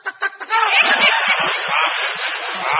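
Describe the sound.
A person imitates a chicken, starting with three quick clucks and breaking into a loud, continuous squawking cackle.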